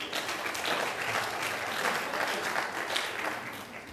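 A crowd claps steadily for about four seconds, a dense, even wash of many hands with no single claps standing out, fairly loud throughout and easing slightly at the end.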